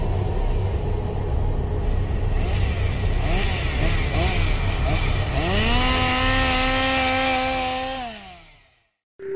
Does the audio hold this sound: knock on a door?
no